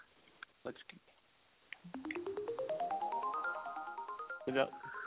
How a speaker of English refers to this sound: Let's go with the three wish segment. You know, that's a new little chime I threw in.